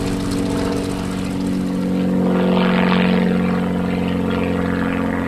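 A barnstorming propeller biplane engine drones steadily and loudly in flight with a passenger aboard, a continuous throbbing roar with wind rush layered over it, holding an even level from start to finish with no voices.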